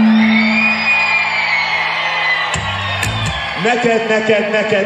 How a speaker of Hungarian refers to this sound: nagyon köszönjük, most mi tapsolunk meg ezúttal titeket. Nagyon szépen köszönjük!